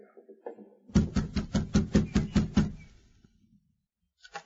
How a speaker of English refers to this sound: Better knock on the door instead of calling out.